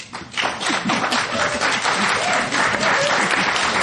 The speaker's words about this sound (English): Can you hold your applause? I'm going to keep reminding you we want to get as many questions and answers in as possible.